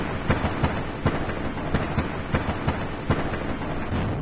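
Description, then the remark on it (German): Colliding icebergs recorded underwater in the Southern Ocean: a dense, rumbling roar of noise broken by about ten sharp cracks and pops at irregular intervals, with no voices. “Kollidierende Eisberge zum Beispiel.”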